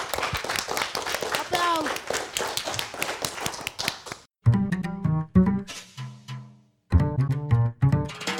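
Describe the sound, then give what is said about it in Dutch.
An audience breaks into dense, steady applause for the students of the summer school for about four seconds, with a few rising whistle-like tones mixed in. The clapping then stops abruptly and someone begins speaking. “Geef ze alvast een groot applaus, de leerlingen van de zomerschool.”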